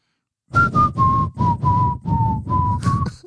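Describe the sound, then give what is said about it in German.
Someone whistles a slow rock ballad melody, about eight clear, sustained notes in a steady rhythm, with a breathy rush under each note and no talking. “Du pfeifst 3 Töne und einer weiß, welcher Song das ist”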